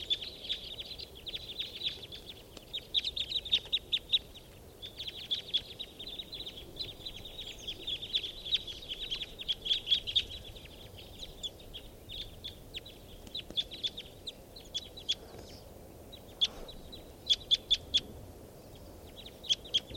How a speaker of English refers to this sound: This is the calls of the flock. They're all taking off now.